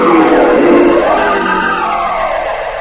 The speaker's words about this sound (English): Donald races up and down the road past the other cars, kicking up clouds and clouds of dust.